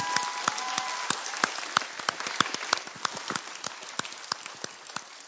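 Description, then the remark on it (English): A crowd applauds the U14 Shield Award winners and their coaches steadily, many hands clapping at once in a dense, irregular patter with sharper individual claps standing out throughout. “So coaches, yeah, give them everybody a round of applause.”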